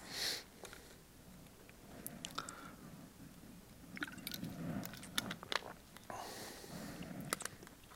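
Someone takes a drink of water, with soft wet mouth sounds, small slurping sips and swallows spread over several seconds, and no talking.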